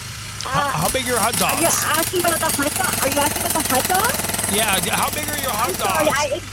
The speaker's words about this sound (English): I'm at a construction site.